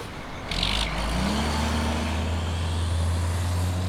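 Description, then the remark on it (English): A diesel truck engine idles with a steady low rumble, its tone lifting slightly as it revs, after a brief hiss of air near the start. No one speaks. “The scent of earth and dampness fills the air, mingling with the diesel fumes that cling to the truck's exhaust.”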